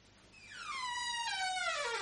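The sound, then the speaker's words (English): A long, drawn-out creak of door hinges, a harmonic squeal that slides steadily downward in pitch and grows louder over about two seconds, with no voices. “I really must oil the hinges at this door.”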